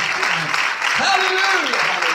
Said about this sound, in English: Come on and give God a hand clap. Give him a hand clap.